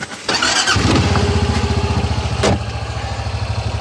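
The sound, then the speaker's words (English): A truck engine turns over with a short burst and catches, then settles into a loud, steady low rumble with a regular throbbing pulse and a brief hiss partway through, as the truck drives down a bumpy forest road near Algonquin Park. No one speaks. “we're in Mike's truck right now, driving down a really bumpy forest road”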